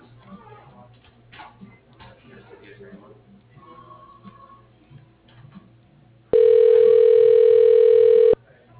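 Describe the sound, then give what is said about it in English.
Faint line noise and a brief soft beep give way to a single loud, steady telephone ring tone, a buzzy electronic burst lasting about two seconds before cutting off, as a call to Inslee Electrical Services is transferred to a cell phone. “but I can transfer you to his cell phone.”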